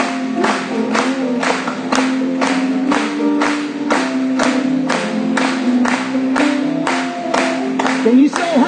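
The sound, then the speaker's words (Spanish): An audience claps together in praise during a Spanish-language worship song, in a steady, even beat, roughly two claps per second, loud and sustained throughout, over a continuous backdrop of music and voices. “Vamos a aplaudirlo.”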